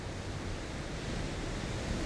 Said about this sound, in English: But this dark forest lies offshore, beneath waves, on terraces of magma frozen into this very island. Rip tides, zip waves, and peaks of rare magnitude come to wash us away.